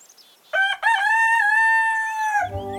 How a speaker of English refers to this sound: An idyllic country setting in animation. A rooster sits on the top rail of a wooden fence, black and white cows chew the grass.